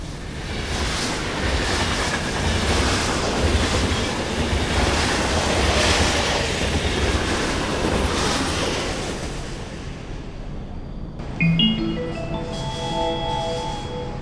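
A train thunders through a station on track 2 without stopping, with a loud, steady rushing roar, then fades away as a bright electronic chime melody starts up; no one speaks.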